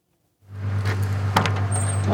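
A large white van's engine idles with a steady low hum as the side door unlatches with a sharp clunk and rolls open, followed by a thin, high electronic chime. The door is opened to load groceries just wheeled out of the Leavenworth Mission Food Pantry in northeast Kansas.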